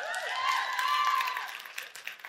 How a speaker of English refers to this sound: And listen, I'm all for the claps. I appreciate it. I do. And I'm not telling you not to it.